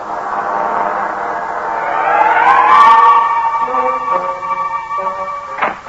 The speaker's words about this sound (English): Every second I'm in the street, I'm waiting for that blessed siren.